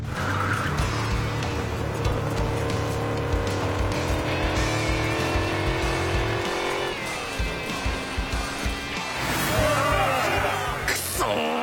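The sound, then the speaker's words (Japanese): Loud racing engines roar and climb steadily in pitch as they accelerate at the start of a race, a dense continuous drone lasting several seconds before shifting into a rougher, noisier burst of motor sound near the end. “やはりエンジンのパワーではやや劣るか。”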